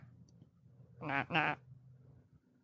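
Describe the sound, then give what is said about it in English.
A small toy duck wearing a hat gives two quick, nasal quacks back to back, fairly loud, over a low background hum with no one talking. “It's a little duck with a hat on.”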